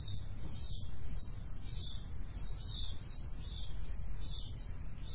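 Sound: bird chirping and singing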